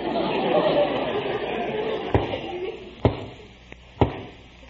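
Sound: knocking on a door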